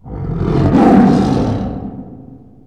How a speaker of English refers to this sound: Tiger.